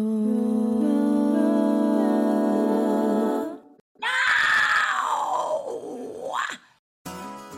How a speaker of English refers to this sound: That roar was from vocal coach and metal scream expert